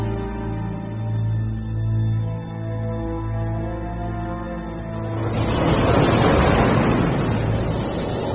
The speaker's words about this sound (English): In winter, the temperate seas are lashed by violent storms.